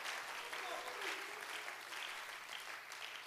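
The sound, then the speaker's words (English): An audience claps hands steadily to praise the Lord, a dense wash of many overlapping claps at moderate volume, with faint voices murmuring beneath the applause. “Oh, somebody clap your hands now and praise the Lord.”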